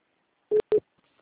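A telephone busy tone after a dropped call: two short, steady mid-pitched beeps separated by a brief gap, clear and alone, followed by near silence.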